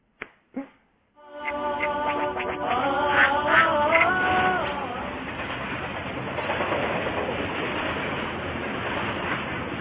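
Two sharp clicks, then a metro train starts up with a rising tonal electric whine that fades into a steady, fairly loud rolling rumble of wheels on rails, with no talking.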